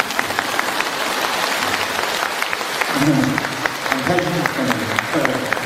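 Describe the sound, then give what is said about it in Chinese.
A crowd at a talk in Malaysia applauds steadily for several seconds, a dense patter of many hands clapping at once, clapping for the 台长. Voices rise faintly beneath the clapping toward the end. “台长，鼓掌吧。”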